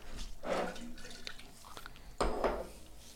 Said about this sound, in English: As always, pouring a little batch brew.